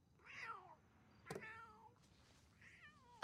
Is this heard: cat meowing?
yes